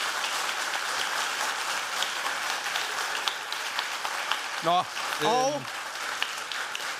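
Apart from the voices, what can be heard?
audience clapping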